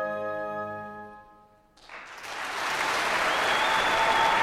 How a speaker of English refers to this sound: We got to the end of the piece, and there was an eruption of applause.